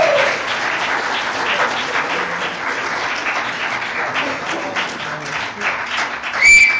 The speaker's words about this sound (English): Oh, who was that? Who just whistled like that? Yeah, see, it was one of you guys. I know it was.